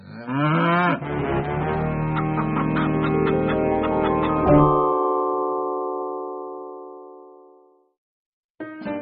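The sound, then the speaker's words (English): Cows moo loudly, their long, drawn-out calls overlapping and sustained for several seconds before fading into silence, then a new moo starts up at the end. “In the background, he heard the cows busy at work. Click, clack, moo.”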